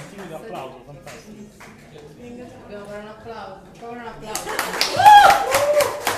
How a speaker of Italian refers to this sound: Un applauso, fantastico. Dobbiamo fare un applauso.